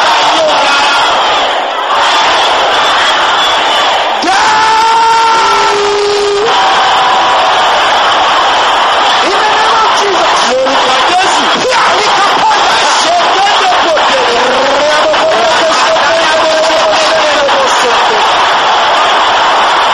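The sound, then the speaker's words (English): An audience shouts loudly together in a dense, sustained roar of many voices, with a few individual cries rising and wavering above the crowd throughout. “Can you shout this loud?”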